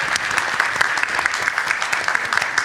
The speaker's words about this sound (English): I'll take another round of applause for Mako.